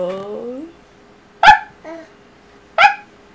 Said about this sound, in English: You want to hear the dog? Like, the dog? The dog? It the dog? You like the dog. You like a dog? You like a dog? It's like, what? Hey, dog.